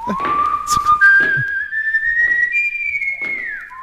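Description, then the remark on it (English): A clear, sustained melody whistled by a man in a country song recording glides smoothly upward in pitch over a few seconds, with faint musical accompaniment underneath and no voices. “That's a, he's whistling, he ain't yodeling.”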